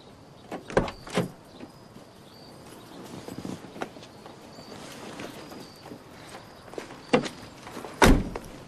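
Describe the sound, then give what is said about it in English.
A red car pulls into a driveway and idles low and steady while a couple of sharp clunks of a car door opening ring out early as a woman gets out, then more door clicks and a solid thud near the end. “a red car pulls up into the drive. A woman with long blonde hair gets out, carrying a box of hangers and a shoulder bag.”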